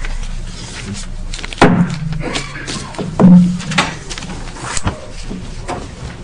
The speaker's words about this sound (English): Looks like my gavel just opened the door. Yeah, I heard it.